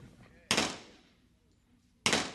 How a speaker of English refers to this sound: Santorum emptied two magazines into the target.